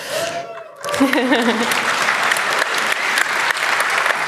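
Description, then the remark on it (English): A large audience breaks into loud, sustained applause, dense clapping that swells quickly and holds steady, with a voice briefly audible at the start as it begins. The applause thanks the helpers called angels. “So let's thank all the angels, even those we couldn't mention here, with a thundering round of applause again.”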